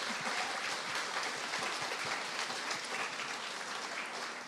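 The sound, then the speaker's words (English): An audience at a live show claps steadily for a few seconds, giving the women on stage a round of applause: a dense, sustained wash of many hands at a constant loud level with no voices standing out. “So before we move to some questions, can we all just give the ladies a gigantic round of applause for everything that they do?”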